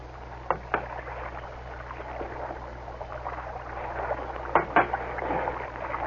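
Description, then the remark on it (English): Oars rowing a small boat, dipping and pulling through water, with paired splashy strokes near the start and again near the end over a steady watery wash, moderately loud, no voices. “we keep rowing.”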